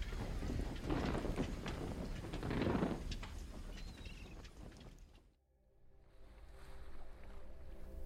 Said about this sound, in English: The Adriatic Sea is quiet, with barely a ripple disturbing the surface of the water.